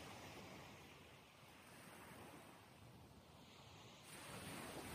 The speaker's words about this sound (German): Die Wellen kommen und gehen. Du beobachtest das Meer jetzt einmal von der anderen Seite. Von hier aus sieht es ganz anders aus. Und du beobachtest einfach mal, wie die Schaumkronen an Land spülen und gleichzeitig wieder zurückfließen.